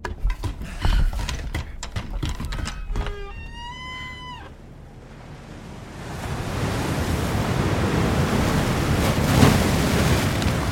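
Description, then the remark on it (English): A rushing, roaring wave surges into a sea cave and crashes into a boat, building to a loud, sustained wash of surf, preceded by a few sharp knocks and a brief, wavering whinny-like cry. “Another wave roared into the cave and crashed into the boat.”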